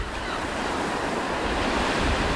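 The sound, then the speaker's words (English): Steady wash of high waves on Utah Lake breaking on the beach shore on a warm day, a broad continuous rushing surf with some wind buffeting mixed in and no voices. “The waves are high.”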